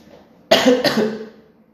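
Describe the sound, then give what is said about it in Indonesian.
A person coughs in the morning after waking while journaling: two quick, harsh coughs in close succession, loud, with a raspy breathy tail fading out afterward; no one speaks. “Batuk lagi anjir.”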